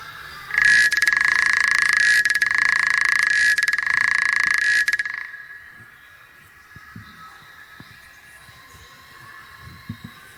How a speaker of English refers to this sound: Hearing a couple of correct frogs out there. Second frog.